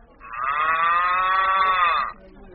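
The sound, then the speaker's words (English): A single long moo held for about two seconds, loud, with a steady rich harmonic tone. It is a human voice imitating a cow convincingly over a telephone line to an operator, with no other talk. “You know, if I didn't know better, I could swear really? That there really was an actual cow on the other end of the line.”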